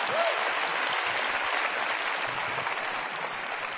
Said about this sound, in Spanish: Así es, sí, pueden aplaudir, está bien.